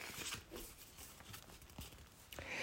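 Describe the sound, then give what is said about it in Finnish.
A page of a Pipsa Possu storybook being turned while the story is read: a series of crisp papery rustles and flicks spread over a couple of seconds, fairly quiet, with no voices. “Ja käännetään sivuja.”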